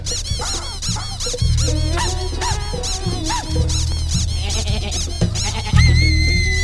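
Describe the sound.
A person imitates a wild sheep's bleat, repeating quavering, wobbly cries in quick succession, loud, with a steady low throbbing underneath.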